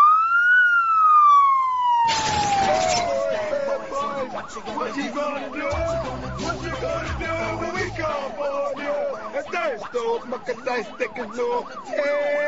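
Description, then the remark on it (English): A loud police siren sound effect wails with a smoothly rising then falling tone, joined after a couple of seconds by dense, busy music-like layers and rapid warbling tones that continue to the end. “And you know by the sound of those sirens, it's console crimes time.”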